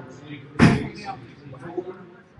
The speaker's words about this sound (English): A little bit of wind here in Lacombe Ballpark, so you might hear some doors closing pretty quickly.